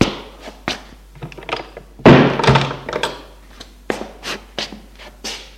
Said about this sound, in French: Ils entrent et ferment la porte.